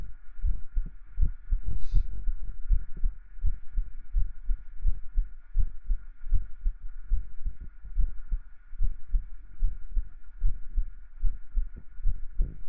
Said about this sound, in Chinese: 像你姐姐的心跳，长得像就算了，心跳都不像。